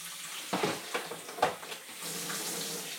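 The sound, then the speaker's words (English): Hot water runs steadily from a tap into a sink, a broad hissing splash with a few clunks and bumps early on, moderately loud, with no voices. “Getting the water hot.”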